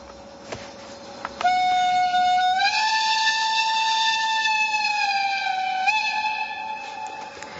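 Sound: steam locomotive whistle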